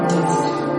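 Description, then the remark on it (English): Bells ring in a steady, sustained wash of overlapping metallic tones, holding an even loudness for under a second with no voices present. “The bells are ringing.”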